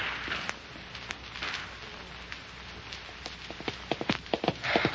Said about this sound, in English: Come on, girl. Nose them out. Come on. Half a mile lead. Come on, that's a good horse. You show him. Good girl. Good horse.